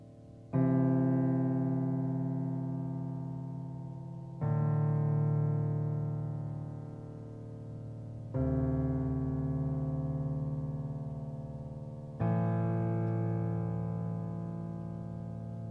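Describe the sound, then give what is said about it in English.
A low E flat rings out four times in a slow, steady pattern, each note held about four seconds with a rich, growling tone that gradually fades before the next. No voices. “So you kind of hear that growl of that low E flat at the bottom there.”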